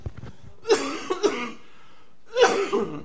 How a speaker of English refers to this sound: A couple of things, real quick, and I'll try not to cough you in your ear again.